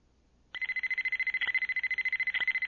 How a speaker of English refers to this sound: The alarm came in the middle of the night. Wedge Antilles jerked awake and struggled to remember where he was.